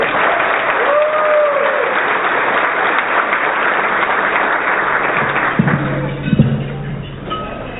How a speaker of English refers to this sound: Okay. Let's give them all one more big round of applause in memory of Harvey Milk.